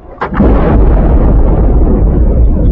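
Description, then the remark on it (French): A single heavy underwater seismic airgun blast from seismic prospecting for oil exploration hits suddenly, then swells into a loud, sustained low rumble that rolls on without fading, booming like thunder beneath the water. “Prospection sismique.”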